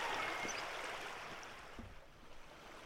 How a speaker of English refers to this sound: Listening to the Huatulco River. The Huatulco River has many voices and infinite stories. The water converses with the stones, burbling and gushing, always flowing towards the ocean.